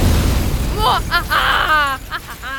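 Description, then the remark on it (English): A deep, rumbling explosion booms out as a princess blasts through castle walls, its low roar carrying on beneath excited, high-pitched voices that cry out over the blast. “Hey, I don't want to scare anybody, but it looks like that crazy princess blasted through the castle walls and is heading this way.”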